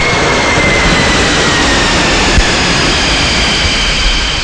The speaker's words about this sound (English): Look, there is an aeroplane coming! Coming! To save the rabbit!